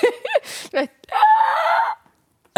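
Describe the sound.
A voice imitates a tortoise's mating scream: a few short, strained vocal bursts lead into one long, loud, rasping, wavering cry lasting close to a second, then silence.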